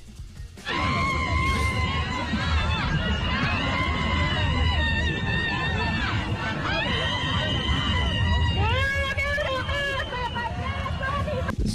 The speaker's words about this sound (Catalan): Crit, no? Document esfereïdor. No calen paraules per expressar els sentiments. Exacte. Cal un crit per dir-ho tot.